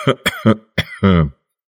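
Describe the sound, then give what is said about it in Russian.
An old man gives a few short, dry coughs in quick succession, followed by a longer rasping throat-clear, then silence. No talking. “Старик упрямо отвергал его любовь, отворачивался, глядя на дощатую стенку, и покашливал негромко, но явственно, сухо.”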